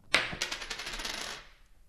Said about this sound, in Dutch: En nou kunnen we natuurlijk gewoon lekker tossen met een muntje. We doen Dennis, doen we kop. En Koen doen we munt. En dan gaat hij weer.